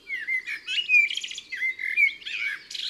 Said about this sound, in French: Ses strophes sont toutes différentes, avec beaucoup d'inventions, de la musicalité. Le merle est un artiste.